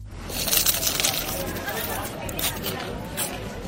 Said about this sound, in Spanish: Eso es, así es como suena un torrezno cuando lo introduces en la boca y le das un mordisco. Pero te habrás dado cuenta también de que así, de esta forma, no cruje cualquier torrezno.